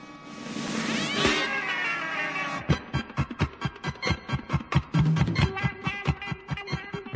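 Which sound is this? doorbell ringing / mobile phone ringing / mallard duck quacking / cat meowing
cat meowing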